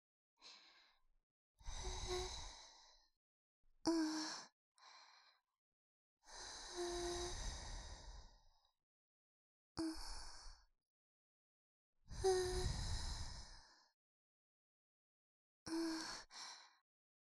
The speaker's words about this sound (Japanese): 奥の奥までゆっくり吐息を送らせていただきます。